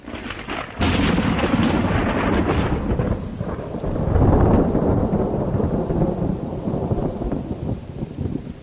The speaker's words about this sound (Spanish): Es una tormenta, claro, con sus rayos, sus truenos. Es un auténtico espectáculo, no sé si a ti te pasa, ¿no? Yo soy de las que de repente me puedo quedar un buen rato, ¿no?, mirando esa tormenta, ese sonido sobrecogedor.